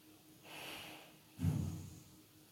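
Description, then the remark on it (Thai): One sharp breath drawn in with a hissy rush, then a heavier, lower forceful exhale through the nose, both brief with no talking; a deliberately controlled short, strong breath in and out, done as a mindfulness exercise. “เพียงลมแรกที่เราสัมผัสรู้ว่า B1 นี้คือลมหายใจสั้นและแรงที่เราบังคับกายหายใจแบบนี้แค่1ลมหายใจเอง”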